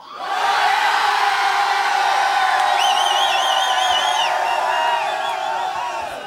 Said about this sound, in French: Mais les 6000, si on leur dit tous d'arrêter de boire et de hurler dans une seule direction, regardez comme ça fait.